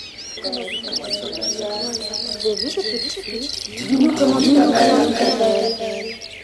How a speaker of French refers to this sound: Il y a un grand arbre. Et sur ce grand arbre sont perchés des dizaines d'oiseaux de toutes les couleurs. Des rouges, des jaunes, des bleus, des verts. Et il y en a même quelques-uns qui sont en même temps rouges, jaunes, verts et bleus.